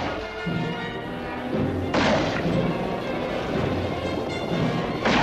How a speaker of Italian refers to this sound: Infatti, in lontananza, Bambi udì il cupo terrificante crepitio dei fucili.